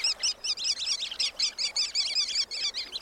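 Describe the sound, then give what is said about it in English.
A flock of sanderlings, tiny sandpipers, on a winter beach keeps up a continuous stream of sharp, high chittering calls, overlapping in quick bursts, steady throughout with no talking. “Though most birds that enliven beaches in summer have gone south, tiny sandpipers called sanderlings are easy to find on winter shores.”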